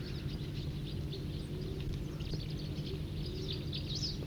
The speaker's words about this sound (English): And other crossbills nearby giving song phrases and trills. That was a song phrase.